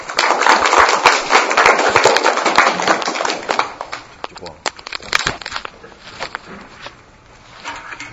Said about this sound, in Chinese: 我们掌声欢迎。